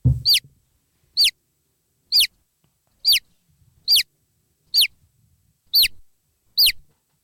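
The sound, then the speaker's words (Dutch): A baby chick peeps eight times, each call a short, high, downward-sliding chirp, spaced evenly about a second apart. The peeps are clear, with nothing else in the background. “Oké, dan heb ik nu een heel schattig kuikentje voor je, Meerte.”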